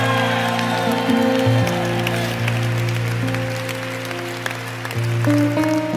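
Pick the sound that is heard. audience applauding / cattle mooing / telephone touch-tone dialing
audience applauding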